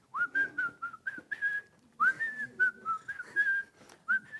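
Someone whistles a bouncy, cheerful melody in two short phrases of quick, sliding notes, clear and close with no talking, pausing briefly between the phrases.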